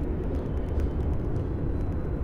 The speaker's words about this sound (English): And I can hear a train down the way.